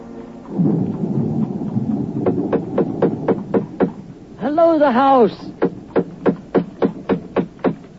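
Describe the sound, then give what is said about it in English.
Mr. Hutchings knocks steadily and insistently on Mrs. Candle's door, a long run of evenly spaced raps with a brief pause while a voice calls out, then the pounding resumes over a low rumbling background. “Mrs. Candle, answer your door.”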